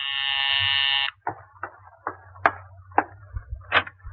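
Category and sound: household object, apartment doorbell ringing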